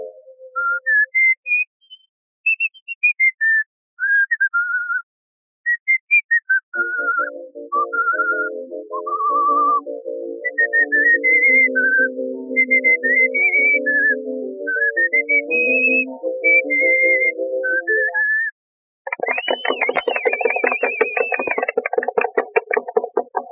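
A girl performer whistles a lilting, bird-like melody, clear, over a steady low instrumental accompaniment, ending with a burst of rapid trilling warbles.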